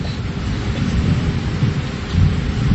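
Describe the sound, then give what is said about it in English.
Heavy rain pours down in a dense, steady roar, with deep rumbling underneath that builds louder toward the end, like a storm intensifying. No voices are heard. “It starts raining very seriously.”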